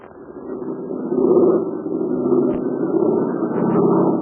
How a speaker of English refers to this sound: You hear that? That's Jude Hennig's American-made plane. And it's flying over the invaders' lines and trying to dodge a barrage of anti-aircraft fire.